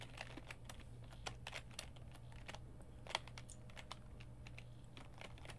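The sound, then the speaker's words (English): Rapid, uneven computer keyboard clacking while playing a tennis video game, sharp key presses tapping in quick bursts over a steady low electrical hum, with one louder clack standing out midway. “This is not easy. Not with a keyboard, it's not.”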